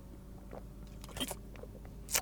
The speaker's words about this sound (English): Hang on, I'll take a drink of water.